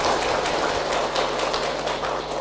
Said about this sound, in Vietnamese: Các vị nghe pháp, cho một tràng pháo tay khen các vị đó.